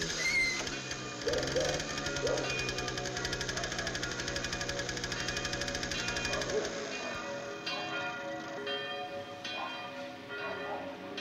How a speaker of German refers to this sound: Plötzlich knatterte ein knallgelbes Moped am Waldrand entlang auf mich zu und riss mich aus meinen Träumen.